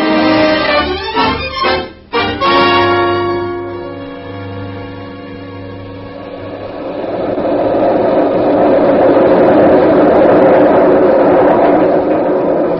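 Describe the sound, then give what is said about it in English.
A new elevated railway train in New York rumbles past overhead, above the street, with a heavy low roar and rattling, metallic clatter, starting with sharp rhythmic clanks and swelling into a loud, sustained rushing noise as it passes. “That's the new elevated railway train, Julia.”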